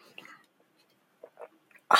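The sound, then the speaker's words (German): A few soft, wet mouth noises of someone sipping a cold drink and swallowing on Naxos, Greece, in short separate bursts with quiet gaps, ending in a sudden louder breathy burst. “Das war mein kühles Getränk.”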